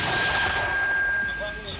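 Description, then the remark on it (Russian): A Ukrainian mortar standing in the streets of Bakhmut, in frost and snow, fires shells toward Russian forces with a loud blast, and its rumbling echo slowly fades across the rest of the moment. A steady high ringing tone runs underneath. “Затем они выпускают снаряды в направлении русских.”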